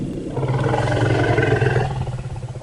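A single deep, sustained rumble from an African savanna elephant, loud, with a rough, throaty growl that holds steady for a couple of seconds before wavering and fading. Scientists say this rumble contains a name. No other sounds or voices.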